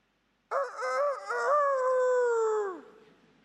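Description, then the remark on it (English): A single loud rooster crow, alone, opening with a few choppy notes before stretching into a long, strained call that sags and fades at the end. “For the rest of his life, Peter heard that rooster crow.”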